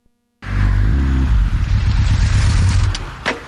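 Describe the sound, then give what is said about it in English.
A motorcycle engine starts up abruptly and revs hard, a loud rumbling roar with rising and falling throttle bursts over about three seconds, with no voices. “Or just looking for a leisurely ride with like-minded bikers?”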